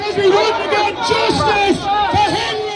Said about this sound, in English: The crowds chanted, "Justice for Henry."